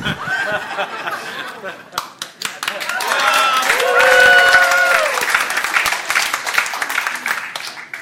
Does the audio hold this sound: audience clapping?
yes